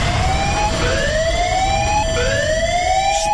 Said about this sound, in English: I'm going to play the alarm one more time, just so you're aware of it. Yeah. And then after that, so this is the last example of the alarm.